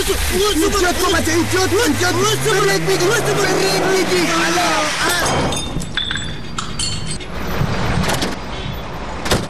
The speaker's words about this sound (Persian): صاحب ترافیکی، تو چی کردی؟ زدی چراغ موترم میده کردی؟ چشم نداری؟ نمیبینی که موتر ما سرک تیر میشه؟